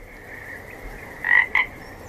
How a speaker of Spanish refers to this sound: El titular lo dice todo. Un tribunal austriaco condena a un vecino a pagar 30.000 euros por el ruido de las ranas de su estanque, lo que se considera contaminación acústica.